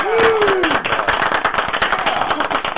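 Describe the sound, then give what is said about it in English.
A burst of recorded applause sound effect played by pressing a clap button, many hands clapping in a dense, continuous patter for a few seconds, opening with a brief falling whistle-like tone over the clapping. “So, press that clapping button, baby.”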